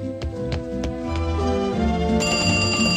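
A telephone rings: a bright, bell-like ringing repeats in quick strikes over a steady tonal background, shifting to a sustained higher ring near the end, fairly loud with no voices.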